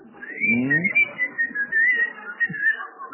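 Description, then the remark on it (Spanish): A thin, wavering whistle blown through a gap in the teeth holds for about three seconds, fairly loud, with a low voice murmuring briefly underneath near the start. “No, se, no está tan mal porque sirve para chiflar.”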